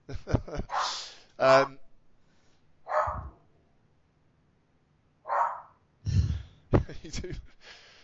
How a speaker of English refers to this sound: Like your dog. There he goes again. He's got little man syndrome.